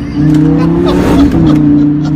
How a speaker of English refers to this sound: Listen to that Lamborghini engine.